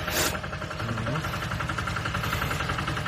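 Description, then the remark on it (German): A tractor-like vehicle engine rumbles steadily as the vehicle comes from behind and drives along here, a low chugging drone that holds a fairly constant loudness throughout, with a brief hiss near the start. “Das ist so eine Art Trecker-Ding.”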